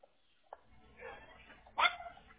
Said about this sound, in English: Oh, shut up. Now he's barking like a rat dog.